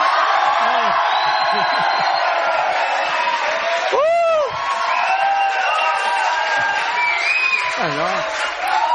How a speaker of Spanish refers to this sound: Los viernes se acostumbra a gritar. Podemos pegar unos gritos, nada más que para ponernos en clima. Adelante, por favor.